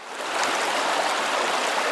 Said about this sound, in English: Here's what the stream sounded like before the dam.